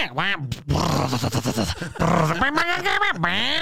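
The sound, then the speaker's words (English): A voice imitates a chubby man's loud, drawn-out, thunderous farts: a swooping vocal rasp, then a long rough, sputtering buzz, followed by more rising and falling blats, all continuous and forceful for several seconds. “And he's forcing these thunderous farts out, bro.”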